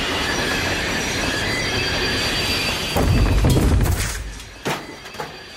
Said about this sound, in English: What is that? That noise? The train! The brakes! Is the train stopping?